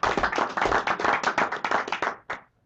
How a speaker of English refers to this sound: Thank you, Representative Phillips, and let's give Scott a round of applause, shall we?